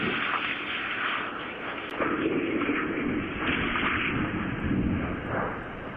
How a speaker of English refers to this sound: It is also believed that the plane that Vince's plane hit was owned by Vince Vaughn. The collision was caught on camera. Here's a few seconds of it.